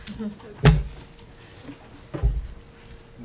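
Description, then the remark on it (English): A chair is shifted into place at a Labor and Commerce committee hearing with two dull knocks against the floor about a second and a half apart, while people murmur faintly. “I think we can squeeze another chair in there.”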